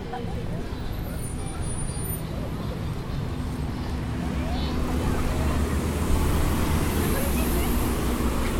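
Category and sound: vehicle, road traffic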